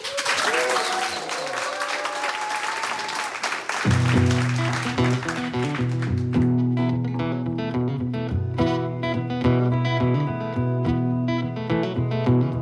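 Audience applause with some cheering fills the first few seconds, a dense burst of clapping, before a live band starts playing steady, loud music that carries on to the end.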